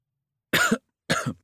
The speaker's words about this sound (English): It sounds like you have a bad cough. Yes, I do. I cough all night and can't get any sleep.